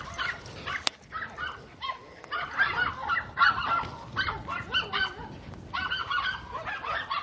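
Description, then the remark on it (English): Several dogs, some on a leash and some in a yard, bark in a busy, overlapping stream of sharp yaps and woofs, moderately loud, continuing without pause and with no one talking. “Dogs on a leash and dogs in the yard, and they both are having fun today.”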